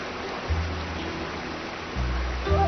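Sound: water flowing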